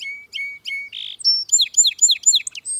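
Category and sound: bird, song sparrow singing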